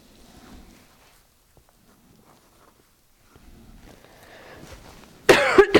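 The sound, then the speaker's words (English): A few seconds of quiet shuffling and faint movement give way to a sudden loud burst of coughing, two or three harsh coughs in quick succession right at the end. “While you're writing that down, I can cough.”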